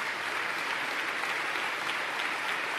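A large crowd of over 1,600 people at an event in the Buffalo Convention Center claps steadily for the person who managed the ticketing, a dense, continuous wash of applause holding an even loudness throughout with no voices rising above it.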